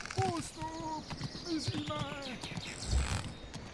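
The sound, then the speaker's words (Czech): Horses gallop past with a quick, clattering clip-clop of hooves, joined by tonal, voice-like calls, moderately loud throughout. “Zřídilo je to tak ošklivě, že to dlouho nevydrželi, obrátili koně a tryskem se hnali zpět na zámek.”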